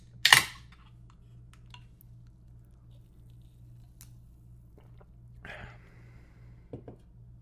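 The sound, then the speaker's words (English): Drinking glasses set down on a hard counter: one sharp, loud clack near the start, then a quieter knock with a brief ringing tone and a soft final tap, with no talking. “Seriously, no one can set their glass down on the counter?”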